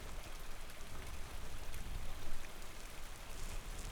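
Gentle scalp massage, kept not too strong: a steady rustling and soft crackling of fingers working through hair, continuous and even for the whole stretch with no one speaking.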